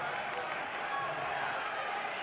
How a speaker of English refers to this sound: I can't hear you, man. There's a big crowd here.